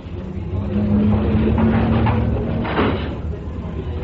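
door opening or closing

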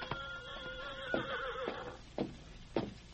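horse neighing

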